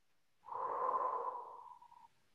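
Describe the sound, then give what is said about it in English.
A single long, steady, deliberate breath, soft, lasting well over a second before trailing off into quiet. No one speaks. “I'm really paying attention to my breathing.”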